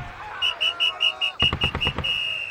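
A shrill whistle blown by a Major to rally the troops, in a rapid series of short, trilling blasts, ending in one longer sustained tone, with a burst of sharp, crackling gunfire-like noise in the middle, fairly loud.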